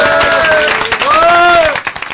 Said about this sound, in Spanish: despido un programa caótico donde los haya hoy rodeado de gente que aplauden así de fuerte, Dios mío.